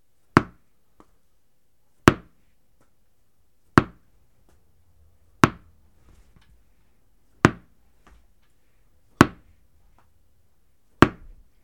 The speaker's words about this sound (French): Quentin doit faire rebondir 6 fois le ballon, mais il s'est trompé.